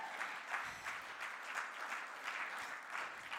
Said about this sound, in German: Ja, könnt auch jetzt schon klatschen